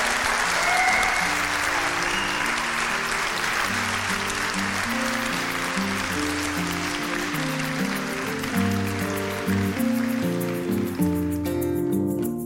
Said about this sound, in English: And I'd love one more massive round of applause for Davina for our live podcast. Thank you.